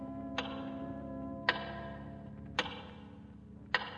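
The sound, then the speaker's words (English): Four slow, evenly spaced ticks of a big clock seen from a jail cell window, its face lit by electric light, each a sharp resonant clack with a brief metallic ring, over a low steady background hum. “And again, you stare out the window at the big clock, its face now brilliant with electrical illumination.”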